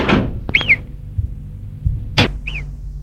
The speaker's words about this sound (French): Arrivée dans le parc, elle entend derrière elle une porte qui s'est ouverte.